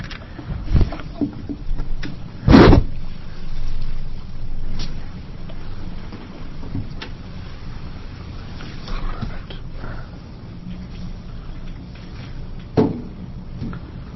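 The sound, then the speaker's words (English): A chair is pulled across the floor in a short, harsh, squealing drag, with a fainter scrape near the end over a low steady rumble and muffled shuffling, as someone brings a chair over to sit at a committee hearing. “Just pull one of the chairs off the side. Why don't you just take the whole thing and move the whole thing over there?”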